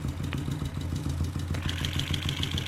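A motorcycle engine idles with a steady, loud, low throb of rapid regular firing pulses, joined partway through by a faint metallic ticking, heard while moving from the back towards the front of the motorcycle to hear different parts of the engine. No voices are heard.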